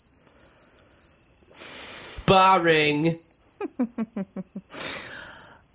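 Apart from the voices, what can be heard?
cricket chirping sound effect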